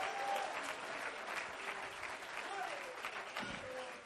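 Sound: audience clapping hands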